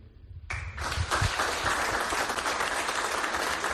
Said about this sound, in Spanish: Ahí está el aplauso en el obispado de Ourense a la figura de Monseñor Manuel Luis Cuña.